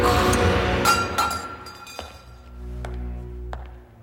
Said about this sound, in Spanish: Barkis bebe el vino mortífero y tira la copa.